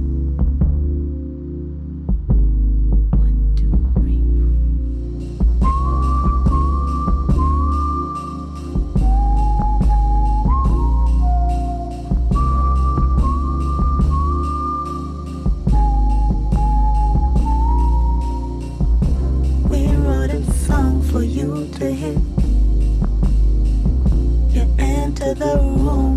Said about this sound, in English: We're going to whistle a little melody for you. It goes something like this.